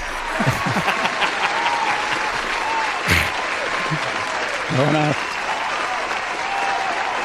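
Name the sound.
long applause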